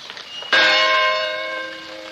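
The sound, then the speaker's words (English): The bell of a Presbyterian church rings out with a single loud strike, its rich metallic overtones ringing and slowly fading, preceded by a faint earlier toll in the background; the bells peal in memorial of the Black children killed in the church bombing in Birmingham, Alabama. “In the background, you heard the church bell of the Presbyterian Church.”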